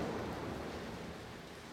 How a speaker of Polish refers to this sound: Znowu wzmaga się burza. Ulewa nawalna i ciemność, gruba, gęsta, prawie dotykalna. Znowu deszcz ciszej szumi, grom na chwilę uśnie. Znowu wzbudzi się, ryknie i znów wodą chluśnie.